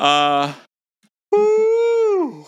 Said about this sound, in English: Truly. That was a big yawn. I'm so sorry. Guys, we stayed up way too late the whole time we were together.